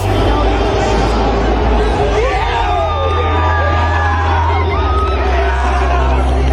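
A dense crowd of onlookers cheers and chatters steadily as a marriage proposal right after the Super Bowl is accepted, with a few rising whoops cutting above the loud, continuous hubbub and a low hum underneath.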